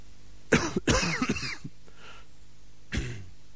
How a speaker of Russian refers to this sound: И даже если это слово «подумать» там у себя в мозгу, подумаешь, и тут же, как бы извиняясь за него, споткнешься и откашляешься.